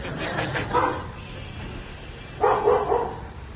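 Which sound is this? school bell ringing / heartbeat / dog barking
dog barking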